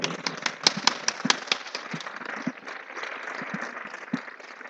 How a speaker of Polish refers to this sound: Oddajmy Bogu chwałę oklaskami.